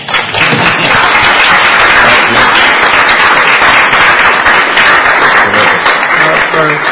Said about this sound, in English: Please stand up so we can applaud you.